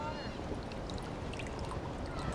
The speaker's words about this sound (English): He walks to a table in an adjacent tent, picks up a teapot, and pours a cup.